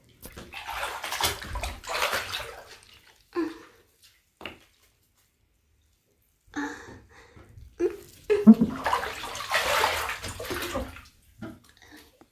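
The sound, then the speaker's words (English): Water sloshes and splashes in a bathtub as someone stands and drips water over their body, in two long stretches of churning and dripping, separated by a few seconds of near silence with a couple of brief drips. Moderately loud, with no talking. “You want to see me drip this water all over my body?”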